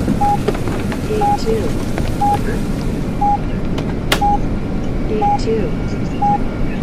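Steady, dense rain hisses and patters throughout, fairly loud, with a short electronic beep repeating roughly once per second over the top.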